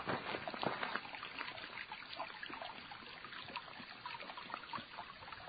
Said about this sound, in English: Well, actually, it's not entirely silent. It's I hear some water. It's not really raining. It has rained. There's a threat of rain. Oh, here we go. Across the street, there's actually a little stream. That's what I was hearing.